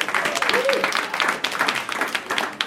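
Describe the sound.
An audience applauds with a steady wash of many hands clapping, dense and fairly loud throughout, with a few voices cheering faintly underneath.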